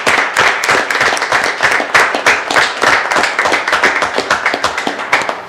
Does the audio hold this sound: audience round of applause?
yes